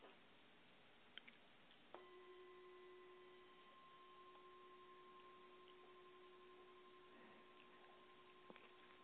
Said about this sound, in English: I hope you heard the sound of the gong, even though your fingers are in your ears. But could you hear the sound?